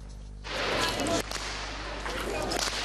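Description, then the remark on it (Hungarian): Sharp whip cracks snap out loudly over a steady wash of outdoor crowd noise, a few sudden bursts followed by fainter snaps, as a group of betyár outlaws from Hajdúság parades from Uzhhorod's old town to Theatre Square during a Ukrainian-Hungarian good neighbourhood day. “Ostor csapcsoklatással vonultak a hajdúsági betyárok Ungvár óvárosából a színháztérre.”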